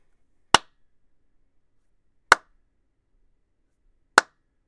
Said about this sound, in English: And now 3 claps.